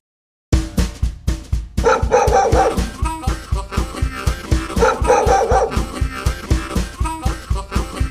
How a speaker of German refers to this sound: Ist das nicht schön geworden? Ein Traum, oder? Es ist richtig, besonders das Hundegebell.